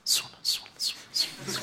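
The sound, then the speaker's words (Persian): A voice imitates chicks chirping: five quick, hissy, high-pitched syllables repeated in an even rhythm, each short burst separated by a brief gap. “جیگ جیگ میکنن، دیدی مثلا قشنگ صدا جوجه میاد، انقدر قشنگ نماز که تموم میشه انگار مثلا در مرغداری واکری جیگ جیگ جیگ جیگ صدا جوجه میره سراغ بعدش.”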